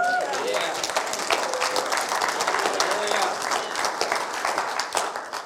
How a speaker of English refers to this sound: Give the Lord a clap.